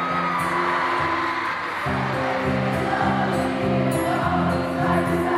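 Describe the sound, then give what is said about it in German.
A dense, loud crowd of about 5,000 concertgoers, mainly girls, screams and cheers without pause in front of a concert stage, their shrill voices blending into a constant high-pitched roar, with steady musical tones humming underneath. “Rund 5000, hauptsächlich Mädchen, stehen davor, kreischen, jubeln und sind glücklich.”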